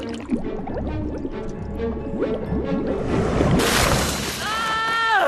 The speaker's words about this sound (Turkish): Yavru James burnuyla suda baloncuklar yapıyor.